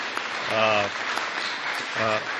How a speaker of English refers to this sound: Feel free to break in with applause anytime you'd like.